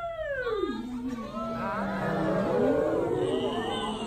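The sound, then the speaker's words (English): People imitate whale calls with long, sliding moans. One voice swoops down from a high pitch, then several others join in overlapping, wavering tones that rise and fall together, steady and fairly loud. “Wouldn't it be righteous if somebody could speak whale or dolphin or something? I can speak whale.”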